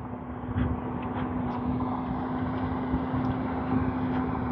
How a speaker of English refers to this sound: There's a big flatbed tow truck coming. That's the noise.